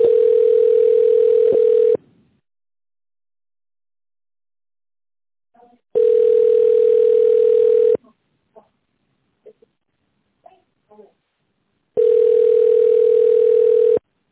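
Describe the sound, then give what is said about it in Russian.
A steady mid-pitched telephone tone, heard while on hold waiting for an operator on a busy line at the GAZ-RusAvto auto centre, sounds three times, each lasting about two seconds and separated by roughly four seconds of near silence broken only by a few faint clicks. “К сожалению, линия занята. Пожалуйста, дождитесь ответа оператора.”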